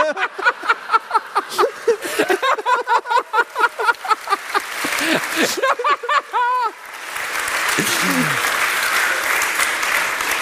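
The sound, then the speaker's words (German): An audience bursts into rhythmic, voiced laughter and cheering, then breaks into loud, steady applause that keeps going to the end, with a few voices calling out over it. “Beifall ist zwecklos.”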